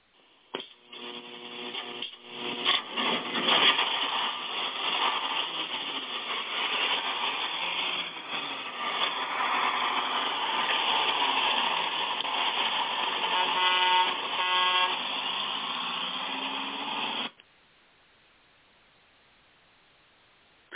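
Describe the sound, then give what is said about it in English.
A bus engine rumbles steadily as a horn honks several times, the dense vehicle noise running loud for about seventeen seconds before cutting off abruptly into near silence. “who do we got on the old gospel bus as we get ready to pull out of the station tonight?”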